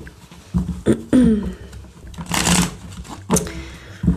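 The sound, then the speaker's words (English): A deck of cards being shuffled, with quick papery riffles and soft slapping bursts, the loudest burst near the middle, followed by a few lighter taps and shuffles, with no talking. “Let me get one more shuffle.”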